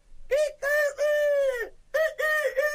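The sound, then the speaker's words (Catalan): A person's voice imitates a rooster crowing cock-a-doodle-doo, loud, in two drawn-out, pitch-bending calls separated by a brief pause. “Ui, ui, quan sentirien el teu cant, totes les gallines vindrien amb mi.”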